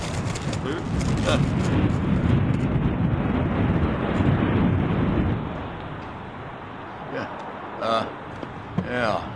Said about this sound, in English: Yeah, blowing up, kind of windy.